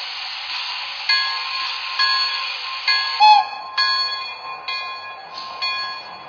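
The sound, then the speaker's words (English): Passenger train number three, the Fast Flying Virginian Limited, idles on track one at the Clifton Forge station platform, a steady airy hiss layered with bright, sustained metallic tones and a few louder swells and clanks, with no voices. “New York on track one, train number three, the Fast Flying Virginian Limited.”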